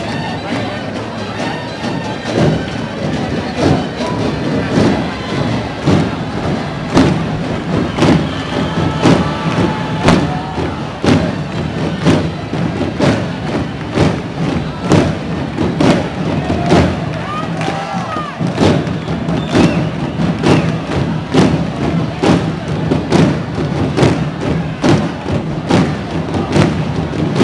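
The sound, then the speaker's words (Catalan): A dense, relentless barrage of firecrackers lit by a troupe of devils surrounding a Lucifer figure bangs and crackles, loud and continuous throughout, with a crowd's noise and voices churning underneath. “Tots els diables envolten el Lucifer i l'encesa ja és efectiva.”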